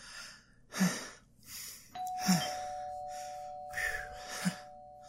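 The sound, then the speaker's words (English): An electronic doorbell, rung by holiday carolers before singing, sounds partway through, a steady sustained chime tone that rings on to the end, with a few breathy, huffing noises around it and no talking. “Okay, just ring the doorbell and then start singing.”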